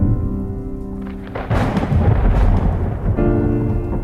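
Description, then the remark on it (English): A loud thunderclap rolls in with a burst of heavy rain from a sudden storm over a synagogue parking lot in Houston on a late summer day, rumbling for a couple of seconds before easing, while a steady musical drone sits underneath at the start and end. “It had been a beautiful late summer day up until that point, when the sky just opened up and the storm just came out of nowhere.”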